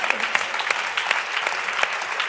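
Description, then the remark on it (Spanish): A group of people applauding steadily, a dense, continuous patter of hand claps at moderate volume that holds for a couple of seconds with no one speaking over it. “Aplauso que Crispy tiene que comer.”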